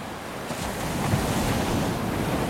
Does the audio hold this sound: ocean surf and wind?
yes